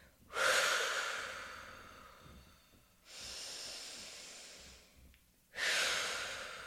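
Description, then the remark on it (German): Three deep, loud breaths in and out at the start of a breathing exercise, done with eyes closed and hands on the knees: airy whooshing inhales and exhales in a slow steady rhythm, with brief pauses between them and no talking. “Augen zu machen und dann einfach zuerst mal tief ein- und ausschnaufen, ganz normal so. Und richtig laut. So einfach mal so dreimal ein- und ausatmen.”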